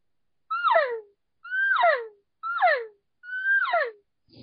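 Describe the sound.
Four nasal, descending elk cow mews made on a thick 0.4 latex diaphragm game call built for bugling, each about half a second long with a twangy, reedy edge, evenly spaced with silence between.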